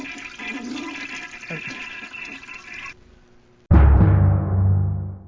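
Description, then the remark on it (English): After a few seconds of steady scratchy noise, a toilet flushes, starting with a sudden loud whoosh and a deep gurgling rush of water that slowly fades. “I flush it.”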